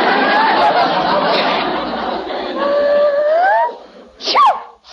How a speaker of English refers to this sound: She wasn't sneezing before, and the dog was here all the time.